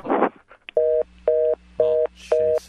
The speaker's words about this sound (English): All right. Everybody, hang up the phone.